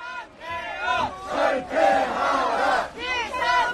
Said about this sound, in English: Those are crowds outside the National Assembly building there. Special forces trying to enter that after the president declared martial law.